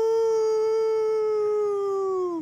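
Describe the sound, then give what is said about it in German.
A small dog lets out one long, sustained howl at a steady pitch to signal its mother, sliding slightly lower as it fades at the end. It sounds loud, with no other sounds around it. “Das Heulen ist unser uraltes Signalsystem.”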